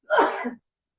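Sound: sneeze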